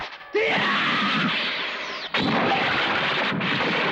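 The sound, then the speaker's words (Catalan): A heavy, loud crash hits suddenly as an elbow strike knocks down the wall of the access doors, followed by a sustained roar of crumbling debris, then a second forceful impact midway that keeps rumbling and clattering to the end. No voices. “I d'una colzada enderroca el mur de les portes d'accés.”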